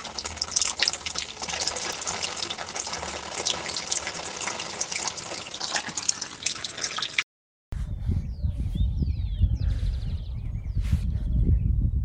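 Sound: water dripping and flowing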